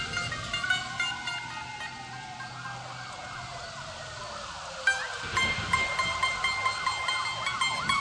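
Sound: police car sirens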